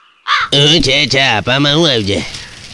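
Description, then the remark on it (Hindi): A crow caws loudly several times in quick succession, harsh, raspy calls running together over about two seconds before fading out. “कच कचिया कच कचिया काका। आपने कच कच नहीं सुना तो कुछ नहीं सुना।”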